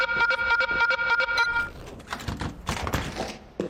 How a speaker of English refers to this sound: Shit, set the alarm off.